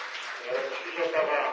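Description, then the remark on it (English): A crowd at a lecture applauds Reverend Yu in a steady round of applause, a dense wash of many overlapping hand claps holding at fairly even loudness throughout the short stretch. “Let's give another big round of applause to Reverend Yu.”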